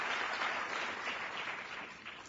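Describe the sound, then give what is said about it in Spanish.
Sustained applause from an audience at the opening of an event in Uruguay, for IDB representative Luis Ross and Housing Minister Raúl Lozano, a dense wash of many hands clapping steadily at an even, fairly loud level throughout, with no voices heard over it. “Para quien pedimos un fuerte aplauso y comenzar entonces esta jornada junto a todos ustedes.”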